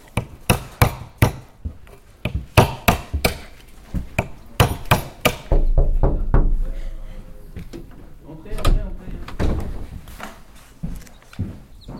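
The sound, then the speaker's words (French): Walnuts and hazelnuts being cracked at a wild animal rescue centre: a rapid series of sharp, loud snapping knocks, several per second at first, then sparser cracks and shell rustling over a low murmur of voices. “Vous voyez, là, aujourd'hui, je casse les noix, je casse les noisettes.”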